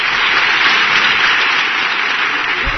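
Sustained audience applause welcoming presidential candidate Mr. Fivish Finkel, a dense, steady wash of many hands clapping at an even loudness throughout, with no talking over it.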